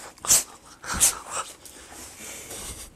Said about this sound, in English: I'll let that dog in, I'll grab one and we can show it. Hold on. I know. Well, how come you're all wet? Is it raining again?